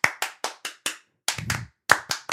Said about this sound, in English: Hey, all you … fans, let me hear you clap your hands.